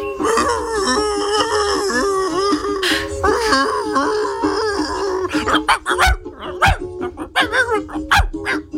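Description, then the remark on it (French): A dog howls and wails in a wavering, tune-like line for about five seconds in a dog-and-chicken version of a pop hit, then breaks into a rapid series of sharp, loud barks and yips. “Donc, j'en ai fait une version clébard featuring un poulet.”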